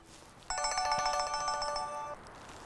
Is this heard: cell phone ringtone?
yes